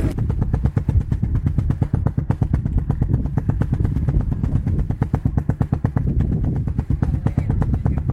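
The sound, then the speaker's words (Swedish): A single-cylinder Suzuki motorcycle engine idles steadily, its loud, evenly spaced thumping pulses repeating rapidly with no talk over it. “Ja, och här har vi en encylindrig Suzuki.”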